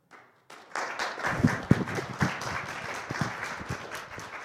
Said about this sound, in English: I hope you heard that applause here in the room. I sure did.